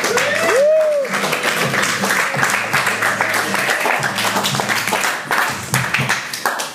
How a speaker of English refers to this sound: Sounds good. And please continue the round of applause, continue it up,